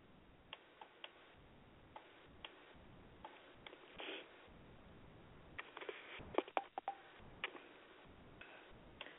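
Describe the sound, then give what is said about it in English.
Scattered short phone keypad tones and clicks as listeners press the 1 button on their phones, coming through a thin, hissy telephone line, irregularly spaced and bunching together toward the middle, with no one talking. “if y'all could hear me and understand me, press a one button on your phone so I'll know.”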